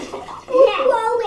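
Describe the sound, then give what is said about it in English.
Water sloshes and splashes in a bathtub as a child plays with the water, while the child's voice rises over it with high, sing-song vocal sounds for most of the moment. “That was splash way too much.”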